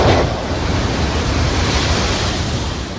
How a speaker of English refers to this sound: Think about the power of the ocean. You can hear it, you can see it, and you can feel it. And it doesn't stop. It just keeps on rolling in, wave after wave.